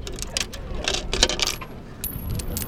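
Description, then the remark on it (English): Several coins clink and rattle down into a coin-operated telescope on the observation deck at the Twin Peaks summit, a quick series of bright metallic drops and jingles over a low background rumble, ending with a brief higher ring as the telescope takes the money. “They're chatting in all kinds of languages, pointing out landmarks, and trying their luck with the telescopes.”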